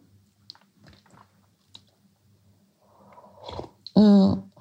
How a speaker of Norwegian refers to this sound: Så du får unnskyld meg at hvis det blir litt slurping, jeg måtte bare ta en slurk til.